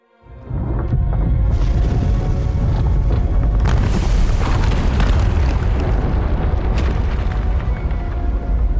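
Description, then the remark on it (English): A volcanic eruption of Mount Ruang in Indonesia, sending plumes nearly 70,000 feet into the sky, roars in a loud, deep, continuous rumble that swells in quickly and holds steady for several seconds, with crackling bursts layered over the heavy low-end boom. No voices. “A massive volcanic eruption sent plumes nearly 70,000 feet into the sky.”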